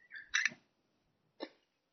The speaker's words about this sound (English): Yeah, the birds are very happy today. Yeah. Enjoying life.